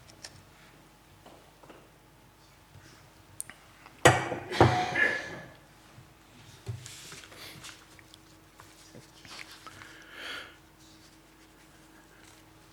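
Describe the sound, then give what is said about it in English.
A short burst of water pouring into a glass, splashy and fairly loud, followed by several seconds of quieter clinks, sips of the water and soft handling sounds with no talking. “Sorry, I'm going to have to have some water.”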